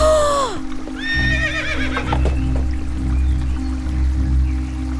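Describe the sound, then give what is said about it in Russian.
A horse whinnies loudly twice, its shrill, wavering calls ringing out over a steady rushing of water, with some splashing and hoof movement underneath, as a man riding it tries to wade into a river. “Он прямо на лошади пытается в реку зайти.”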